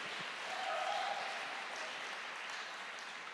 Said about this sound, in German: Applaus für Jesus.